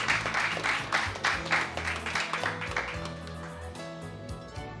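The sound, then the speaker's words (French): A burst of audience applause on Radio PK for a guest's first time on the radio: many hands clapping densely for a few seconds before thinning out as a musical jingle with sustained tones rises underneath and carries on. “Et on applaudit pour sa première.”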